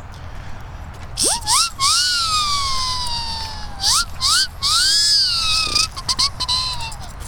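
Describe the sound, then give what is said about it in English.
A siren whistle blown in loud, breathy swoops: its piercing tone shoots upward, slowly sags, then rises and falls again several times over a hissing rush of air. “Got my siren whistle with me, as usual.”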